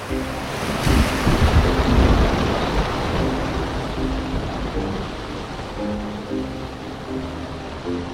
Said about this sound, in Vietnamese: Điều này có thể sẽ thay đổi áp suất của nước và tạo ra một loạt đợt sóng trên mặt biển. Và đó có thể là sóng thần.